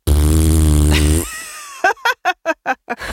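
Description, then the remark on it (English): A child's voice imitates a cat's purr: a loud, low buzzing drone for about a second, then a pause and six short, rhythmic voiced pulses. “And so her impression of purring is just going like this.”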